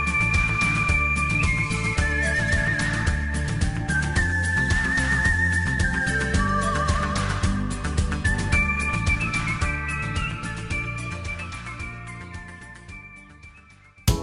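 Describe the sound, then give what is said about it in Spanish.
A whistling artist who lives in France whistles a bright, warbling Spaghetti Western melody with trills and sustained notes over a full instrumental accompaniment, loud and continuous, fading near the end. “El artista de los silbidos tiene 14 discos, vive en Francia y sigue haciendo vibrar sus labios y al público como ninguno.”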